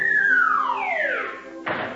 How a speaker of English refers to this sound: What's that? There's somebody up on the roof.